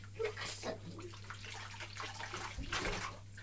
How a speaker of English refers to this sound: That could be the noise, actually, of the Lucozade coming out of the bottle, couldn't it? It isn't, but we could pretend it is.